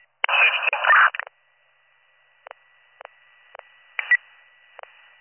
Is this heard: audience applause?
no